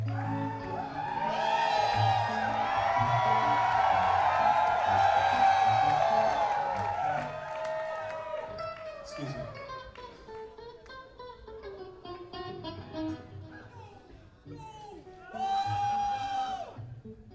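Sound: audience screaming and cheering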